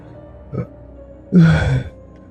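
A person yawns, with a short breathy intake followed by one long, drawn-out yawn that rises and fades, close and fairly loud, with no talking.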